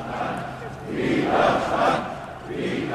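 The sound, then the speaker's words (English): A large crowd of protesters at a Pegida rally in Dresden, Germany, chants "Resistance" in unison, voices swelling and falling in rhythmic waves of loud, shouted syllables. “Resistance, the crowd chants.”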